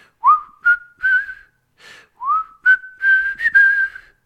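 A whistled melody of a rock ballad, alone and clear: two matching phrases, each opening with a rising swoop into a series of steady, mid-pitched held notes.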